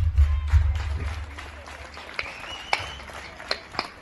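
Applause outside a studio, part of nationwide applause during the COVID-19 coronavirus pandemic, faint and uneven, with scattered sharp claps rising and fading over a steady low rumble. A brief whistle-like tone cuts through partway, and no one speaks.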